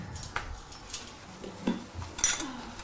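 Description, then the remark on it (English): Cutlery and two bowls clink together in a handful of short, bright taps and rattles as a woman fetches them in her house in Baralla, spaced irregularly over a quiet background with no talking. “she leaves Colin waiting with the food in the lounge room as she goes to get cutlery and two bowls”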